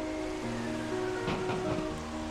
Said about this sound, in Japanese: 戸を叩く風の音と雨の音とはいつまでも衰えませんでした。